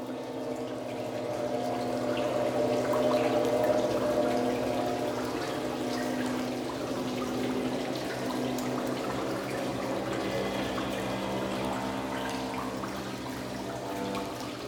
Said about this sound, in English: I had a concert there, and I wanted a lot of cans. And the guy that worked at the hotel nearby, they brought garbage can waste baskets. I had a lot of tin cans and stuff because the water was dripping all the time. So we had a lot of dripping water.